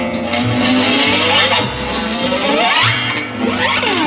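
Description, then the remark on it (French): A big car speeds along loudly, driven too fast, engine revving hard with rising and falling pitch sweeps, tires squealing as it races through turns, continuous with no voices. “Oh là là là là là là, mais il conduit trop vite, ce garçon.”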